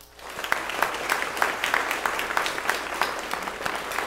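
A church audience at First Baptist Church of Glenville claps steadily to affirm new members joining, a dense, continuous patter of many hands at moderate loudness with no voices over it, sustained for several seconds.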